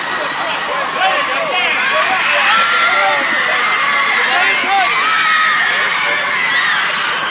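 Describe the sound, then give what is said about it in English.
A large crowd of band fans on an airport concourse screams and yells continuously while waving goodbye as the band board their plane to depart for England. A dense wall of high-pitched shrieks and cheers stays loud and sustained throughout, with no single voice standing out. “There the … are entering the plane as the fans stand on the concourse above, screaming and yelling and waving goodbye, as you hear them in the background, because the … are soon to depart for England,”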